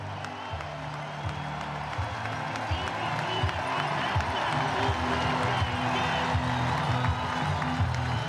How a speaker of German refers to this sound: Und jetzt kommt er langsam ins Sichtfeld vom Publikum. Jetzt hören einfach mal zu, die vielen deutschen Fans machen da ordentlich Stimmung.